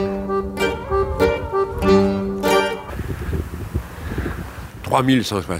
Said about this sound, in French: Mais il y a du vent aujourd'hui, il y a ce Mistral, c'est du Mistral aussi ici. On est à Lampedusa, mais ça s'appelle aussi le Mistral.